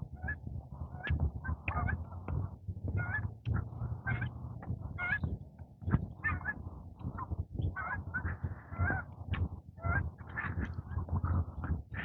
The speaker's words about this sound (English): Geese moving. Oh, here comes a big flight.